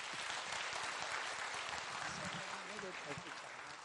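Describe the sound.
Sustained warm applause from a crowd welcoming a pastor at a three-day Christian gathering, a dense steady patter of many hands clapping for several seconds, with faint voices murmuring underneath toward the end.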